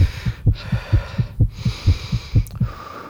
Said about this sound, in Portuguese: O coração palpitava forte.